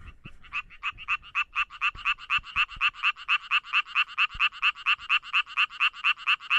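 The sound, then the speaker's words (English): The mating call of a male frog infected with chytrid fungus: a rapid, continuous train of evenly spaced pulsed notes repeating without pause for several seconds, fairly loud, with no voices. “the frogs that were infected with this chytrid fungus, the infected males were slightly larger than the uninfected males, but their call was also different too. It was faster and longer, and you can hear a sample of that here.”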